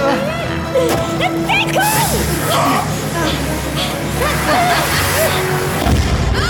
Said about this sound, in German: Die Explosion hatte der Gräfin die Haube vom Kopf gefegt.